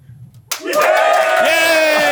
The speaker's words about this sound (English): Yay! That delay cheer was that wasn't awkward at all.